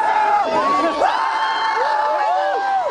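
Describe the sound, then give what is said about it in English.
A dense crowd of young people, many of them college-age, cheers and whoops on the streets of Boston, cheering for martial law, many overlapping voices rising and falling in pitch, loud and continuous with no pauses. “the airwaves showed crowds of Bostoners, many of them college-age kids, half naked and half drunk, actually cheering for martial law.”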